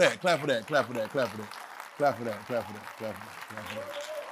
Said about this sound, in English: Clap for that. Come on, we're doing it for a reason. Clap for that. You're clapping for God in you. You're clapping that you recognize God is in you.